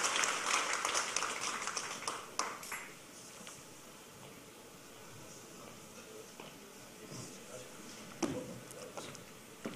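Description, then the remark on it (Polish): An audience at an award ceremony applauds with dense, steady clapping that fades after a couple of seconds, leaving scattered individual claps and a soft murmur until the end. “Wielkie brawa.”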